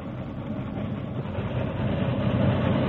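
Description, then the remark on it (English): A big steam locomotive rumbles along the rails toward the listener, approaching rapidly at a steady speed, its dense, steady roar swelling gradually louder over a few seconds, with no voices. “The big engine approached rapidly, maintaining a steady speed, until one of the wheels exploded the torpedoes.”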